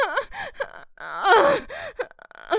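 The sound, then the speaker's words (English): A woman gasps with pleasure several times: short breathy gasps with rising and falling pitch, swelling into one longer, drawn-out gasp midway, with brief silences between. “I hear you gasp with pleasure, girl.”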